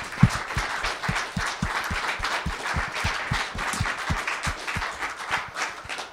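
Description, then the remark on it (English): An audience claps steadily for several seconds for two people, a dense patter of hands at moderate loudness with a few sharper, louder claps standing out in the mix. No one speaks over it. “Let's give them both another hand clap.”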